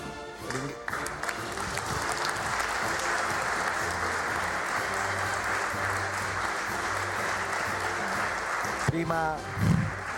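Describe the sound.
Sustained applause from a crowd at a town council meeting, applauding a group of young people: a dense steady wash of clapping lasting about ten seconds, with a few voices and brief speech at the start and end.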